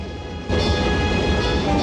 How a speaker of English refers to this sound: The force of the explosion blows it into the distance.